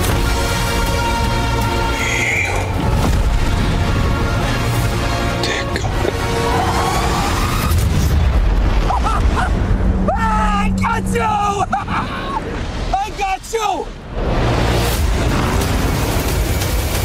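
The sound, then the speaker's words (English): A big, booming explosion erupts amid a loud, dense mix of dramatic music, rumbling effects and roaring engines in the Batman movie trailer, with muffled voices woven through the chaos, as Penguin tries to get away from Batman; the Batmobile then comes out of the explosion. “There's this big explosion.”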